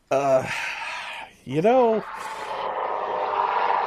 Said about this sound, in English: Oh, sorry about that. Very large helicopter flying overhead. I was going to say, either that or you have a train running through the living room.